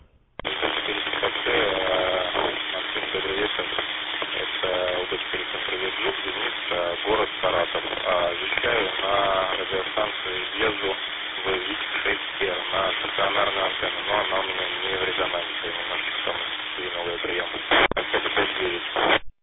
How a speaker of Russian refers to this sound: Принимаю 5 и 4, где-то вот так вот. Большие помехи, слышно очень плохо.